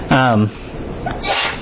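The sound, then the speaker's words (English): A single sneeze: a short voiced buildup followed about a second later by a sharp, breathy burst, with no talking around it. “Bless you.”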